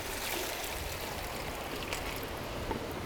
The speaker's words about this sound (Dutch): Nou, gooi ik eerst een laagje water in de bak. En dan komt de vangst.